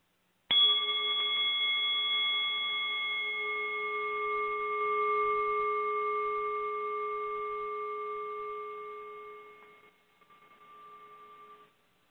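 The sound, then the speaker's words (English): A single bell is struck once and left to ring, its clear, steady tone sustaining for about eleven seconds before slowly fading away. No one speaks. “The delicious conversation you're hearing today was previously recorded live and will begin after the bell.”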